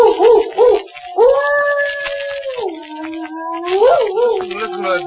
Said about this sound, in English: Listen to that dog. He's in an ugly temper.